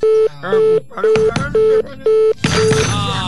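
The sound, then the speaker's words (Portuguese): A telephone call tone repeats in about six short, evenly spaced beeps over busy background voices and noise, ending as a burst of louder sound takes over. “Tem da Cardeiro o telefone? Liga, você liga”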